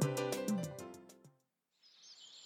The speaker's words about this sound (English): Eagles are the strongest birds of prey. They are in the same family as hawks, but eagles can generally fly higher, dive faster, and hunt larger prey. An eagle will sometimes steal another bird's food. Golden eagle.